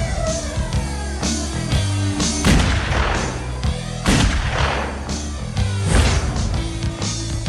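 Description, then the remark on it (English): Repeated gunshots and heavy blasts from a film trailer crack out over a sustained, swelling orchestral score, the bursts arriving every second or so in a loud, dramatic action sequence with no talking. “So lots of people being called shorty and lots of gunfire.”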